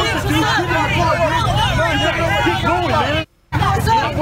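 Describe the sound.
A crowd of Antifa rioters shouts and yells loudly and continuously at Trump supporters in a truck, many overlapping voices, with a steady low rumble of traffic beneath and a brief dropout near the end.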